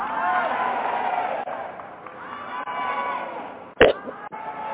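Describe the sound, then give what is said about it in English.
An audience screams and cheers in a sustained, dense roar of many overlapping voices for nearly five seconds, broken near the end by one sharp, loud knock. “So if you're ready, I need you to scream that I'm ready.”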